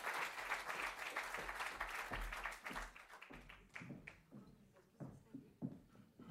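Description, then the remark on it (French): An audience applauds Corinne Lepage as she comes on stage, with dense, steady clapping for about three seconds, then it thins into scattered individual claps that taper off. “Je vous remercie de l'applaudir, comme ça nous allons nous installer sur scène.”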